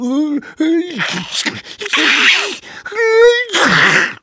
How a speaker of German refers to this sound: »Machen wir«, näselten die kleinen Nieser und niesten munter weiter.